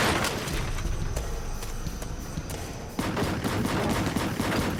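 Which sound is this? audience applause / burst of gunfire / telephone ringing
burst of gunfire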